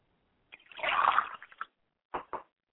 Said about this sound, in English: I pour libation to the west, and I say, Ashe. I pour libation to the north, and I say, Ashe. And finally, I pour libation to the south, and I say, Ashe.